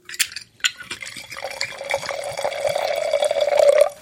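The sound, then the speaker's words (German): A 2013 Riesling is poured into a glass: a couple of light clinks, then a steady gurgling stream whose tone climbs as the glass fills, stopping abruptly after a few seconds. No one speaks. “Okay, dann schüttet auch mal den 13er Riesling ins Glas, dann hast du mehr knackig.”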